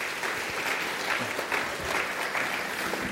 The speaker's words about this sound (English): Why don't you give Sue a round of applause? Really hard to come up here and talk about that.